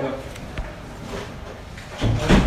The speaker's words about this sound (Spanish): La puerta.